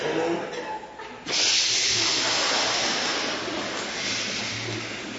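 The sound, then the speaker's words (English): A choir imitates the rain of a storm with their voices, starting as a soft hissing patter and then surging at once into a loud, steady rushing hiss like a downpour that continues without pause. “You are the rain. No. We're doing a storm, not a nice afternoon in Monaco.”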